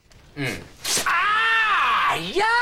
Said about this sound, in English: She rips off the tape on his mouth.